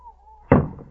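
A trap door in a cabin being opened: one heavy wooden thunk that rings out briefly and fades, preceded by a faint, steady low hum.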